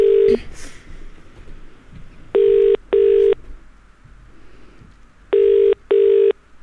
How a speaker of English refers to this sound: Definitely going to be busy today, aren't they? Yeah, this is very busy. Keep swinging. Come on, pick up the phone, guys.